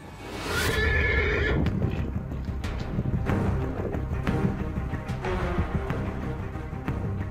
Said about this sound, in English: On our beautiful and wonderful planet Earth, massive draft horses live.